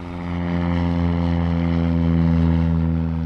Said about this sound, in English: The airport here in Hope is a World War II-era facility. An occasional airplane lands in the one runway that's still open.